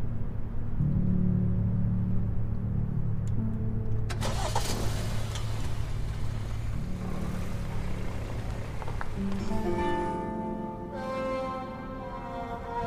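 A car engine cranks and catches partway through, then settles into a steady low rumble that rises slightly in pitch near the end, fairly loud, with no talking.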